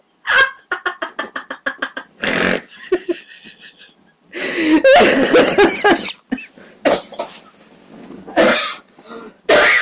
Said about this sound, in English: I'm not dead. I am not dead. I just laughed myself into a coughing fit.